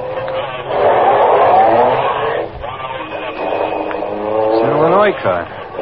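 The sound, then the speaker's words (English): A car engine revs up and pulls away from a traffic light as it changes, taking off behind another car, its pitch climbing as it accelerates, loud, with a second surge of revving near the end. “When the light changes, take off behind them.”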